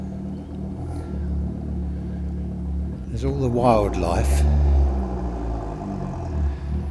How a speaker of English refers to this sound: All the wildlife here, the birds singing, and then some idiot in his car has cut his exhaust pipe off. Perhaps it makes it go faster. I doubt it very much.